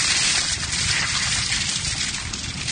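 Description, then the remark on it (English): A big bucket of ice water dumped over a person's head in one loud gush, rushing and splashing steadily for about three seconds before easing slightly. No voices. “The only thing that would make this better is if I had a big bucket of ice water dumped on my head right now.”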